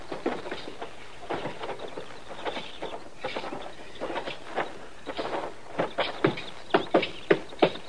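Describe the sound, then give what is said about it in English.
Horses' hooves clip-clop on hard ground, a loose, uneven patter at first that turns into sharper, louder knocks in a steady rhythm. “You just leave your horses there and come on in.”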